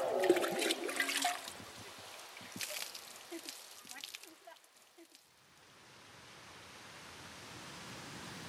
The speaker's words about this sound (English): I thought it'd be a fitting way to wrap up this day with a little evening stroll around some of the fountains here on the Capitol grounds.